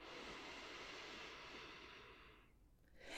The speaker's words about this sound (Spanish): Imagina que estás parada frente al mar. Siente la arena en tus pies, el calor en tu piel. Mira cómo vienen y van las olas. Y con tu respiración, intenta imitar el sonido. Inhala.